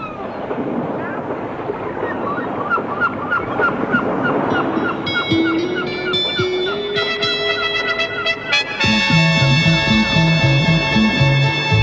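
Seagulls cry over a steady wash of seaside waves, their sharp calls overlapping and loud, before sustained musical tones and a melody rise in and play alongside them.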